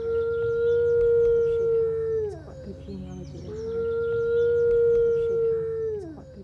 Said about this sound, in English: All right, well, this is the howl of a Mackenzie Valley wolf or a northwestern wolf. So this is a species that occupies the northwestern United States and Canada and the Rocky Mountains.